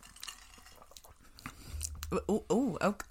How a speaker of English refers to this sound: Oh, sip, little sipperoo. A sippy one. Okay. Well, let's have a taste.